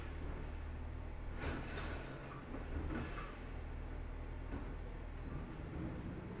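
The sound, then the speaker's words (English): A recycling garbage truck collecting recycled waste at 8 a.m. idles and works, its steady low engine rumble broken by a few brief clattering bursts as cans are tipped in, with no voices. “That was the recycled waste. So there are a lot of cans in there and stuff.”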